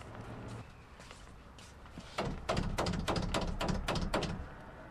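Knuckles rap on a house's front door on Carlin Avenue during door-to-door campaigning for Prop 30 and against Prop 32, a quick burst of about eight sharp, fairly loud knocks, following a couple of seconds of quiet outdoor hum.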